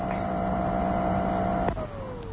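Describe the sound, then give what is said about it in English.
A vacuum cleaner drones steadily with a high motor whine, then a click as it's switched off and the whine slides downward in pitch as the motor winds down. “That's why he kept the vacuum on, so we shouldn't hear.”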